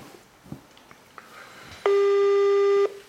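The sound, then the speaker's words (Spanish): A video call ringing tone sounds once, a loud, steady electronic buzz lasting about a second, preceded by faint clicks and quiet background noise, with no one speaking. “Un momentico, déjame colgar aquí y vamos a hacerlo por cámara.”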